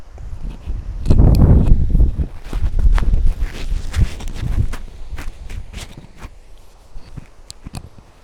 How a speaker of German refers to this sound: Jetzt mache ich mal den Schaumstoff-Windschutz drauf.